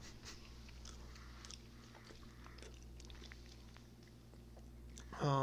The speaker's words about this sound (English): Chew, chew, chew.